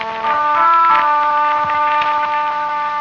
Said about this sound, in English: And over the picture, the sound of a horn echoing from the pass of Roncevant.